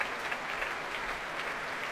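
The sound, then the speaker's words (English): A large Proms audience, joined by members of the BBC National Orchestra of Wales, applauds steadily after a performance by pianist Marc-André Hamelin, a dense wash of many hands clapping at an even level throughout, with no voices rising above it. “And the members of the BBC National Orchestra of Wales adding their applause too.”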